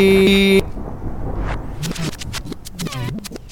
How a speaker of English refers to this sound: Turn off that alarm. She has set off the alarm.